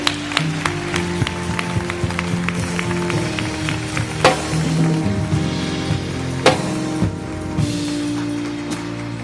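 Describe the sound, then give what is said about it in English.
An audience applauds, giving the Lord a hand, with a steady patter of claps and a few sharper, louder hits, while sustained musical tones hum underneath throughout. “Give the Lord a hand.”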